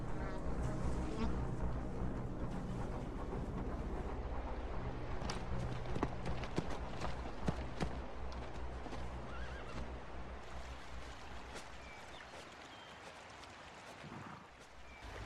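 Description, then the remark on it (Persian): Horses, which come to this spot every day, whinny several times over a steady clatter of hooves clip-clopping, with a busy outdoor wash of movement throughout and a faint voice or two in the mix. “اسبا هر روز میان اینجا.”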